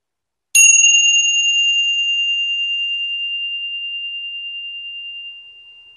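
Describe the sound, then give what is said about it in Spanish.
A single gong strike during a meditation practice, with a clear, bright metallic tone that rings out alone and sustains for several seconds, fading slowly into silence. “Ahora escucha el sonido del gong y siente cómo va diluyéndose en el silencio.”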